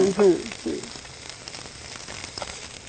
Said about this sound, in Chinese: 嗯，我先把这个油放进去， 然后再来是茄子吗？ 对。 那我们就是用油，然后把茄子煎一煎，